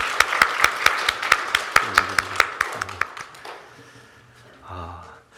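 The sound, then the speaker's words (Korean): A burst of steady, rhythmic clapping as a church audience applauds to give glory to God during a worship service, about a dozen sharp claps in quick succession over three seconds, then it fades out into quiet murmur and faint voices. “이 예배를 위해서 수고하시고 헌신하시는 모든 분들께 또 감사를 드리고 이 감사에 또 이렇게 찬양을 받으실 우리 하나님께 다시 한번 다 함께 영광의 박수로 하나님께 돌려드리겠습니다.”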